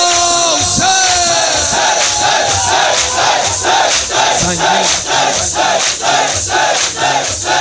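A large crowd shouts together in unison, repeating a loud rhythmic chant roughly once per second, their massed voices forming a steady pulsing roar throughout.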